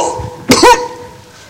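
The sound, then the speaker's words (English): A single sharp, throaty cough bursts out, briefly followed by a rough throat-clearing rasp, then a quiet hum returns. “I'm coughing.”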